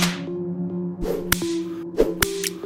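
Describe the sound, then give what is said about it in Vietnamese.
Several sharp, sudden whip cracks snap out at uneven intervals, loud, over a steady low musical drone with no voices. “từng nhát roi đau đớn mà cô phải chịu đựng trong phòng ngủ.”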